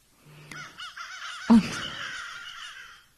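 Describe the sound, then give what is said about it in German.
A crow caws harshly several times in a raspy, overlapping series, fairly loud, with one sharper call standing out midway; no one speaks. “Ja, jetzt gleich passt die Krähe nämlich auch nochmal richtig gut. Ich habe noch eine Krähe.”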